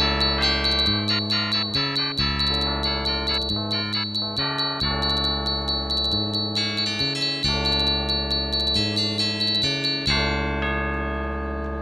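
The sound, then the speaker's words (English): A doorbell plays a long electronic chime tune, a steady run of bright, ringing tones stepping up and down in pitch for several seconds, with no voices. “Judy rang the doorbell.”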